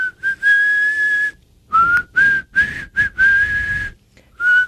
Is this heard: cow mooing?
no